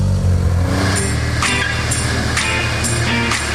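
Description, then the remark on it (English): A car engine roars loudly with a deep, steady rumble, revving up in a series of sharp bursts roughly every half second. No one speaks. “Let's get this garage door up and get moving.”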